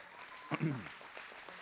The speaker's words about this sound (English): Give him a big clap.